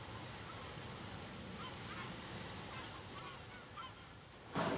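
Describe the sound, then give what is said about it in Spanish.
A dense chorus of seabirds calls and honks continuously from a colony of thousands of birds, with surf-like wash underneath and a louder burst of noise at the very end. “Al formar colonias de miles de ejemplares, estas mismas aves marinas contribuyen a la fertilización de las aguas, dejando caer en ellas sus excrementos ricos en nitrógeno.”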